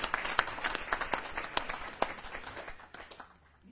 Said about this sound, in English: let's have a round of applause for Gaurav. Thank you very much.